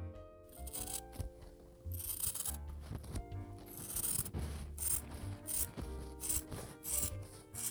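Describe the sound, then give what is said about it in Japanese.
Scissors cutting through cloth, a steady series of crisp, rasping snips in an uneven rhythm, fairly loud, with a faint low hum underneath and no talking. “ハサミで 布を切る音。”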